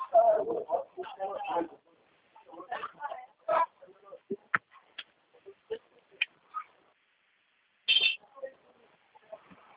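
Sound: small bird chirping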